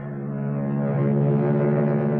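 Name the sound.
air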